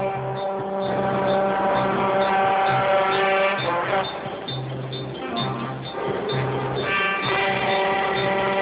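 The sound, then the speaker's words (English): Loud road traffic: engines drone and rev continuously as cars pass by one after another, the tone rising and falling with each vehicle. “Just an elderly man waiting for a break in the traffic.”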